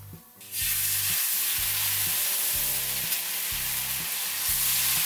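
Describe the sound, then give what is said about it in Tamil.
A thin dosa sizzles steadily on a hot pan as it turns crispy and starts to brown, a dense, bright hiss that swells in after a short pause and holds evenly, with soft low music playing underneath. “அப்போ தான் வந்து நல்லா கிறிஸ்பியாக வரும், கொஞ்சம் ப்ரௌன் ஆக ஆரம்பிச்சிருக்கு.”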